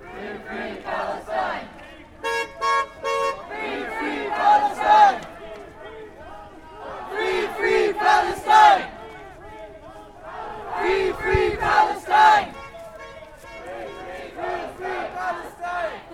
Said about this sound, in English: After nearly an hour, the group began to march around downtown Peterborough, chanting in support of Palestinians in Gaza.